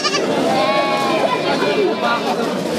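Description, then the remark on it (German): Small white and sturdy black sheep bleat repeatedly at the livestock market in Nizwa, Oman, amid a dense, noisy crowd of animals and men, with overlapping voices and constant background hubbub. “Die Tiere auf dem Viehmarkt in Nizwa stammen aus allen Teilen des Sultanats.”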